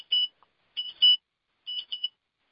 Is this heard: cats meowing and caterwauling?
no